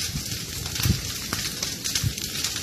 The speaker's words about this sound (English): Even from a safe distance, the blaze can be heard eating its way through the bush.